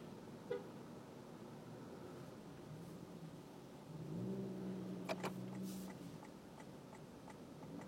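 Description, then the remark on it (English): A car horn blares in a sustained honk of almost two seconds, preceded by a brief toot, in traffic stuck behind a truck at a construction site, over the low steady rumble of idling traffic. A few sharp clicks and knocks follow. “A lot of honking happening here.”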